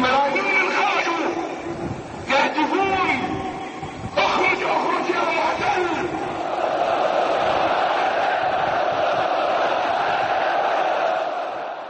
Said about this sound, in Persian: در تظاهرات بغداد پیام مقتدا صدر که از پارلمان و مردم عراق می‌خواست که با توافقنامه امنیتی مخالفت کنند خوانده شد و سپس از تظاهرکنندگان خواسته شد تا خروج نیروهای خارجی را فریاد کنند.